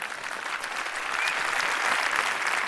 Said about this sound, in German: einen ganz herzlichen Applaus für Robert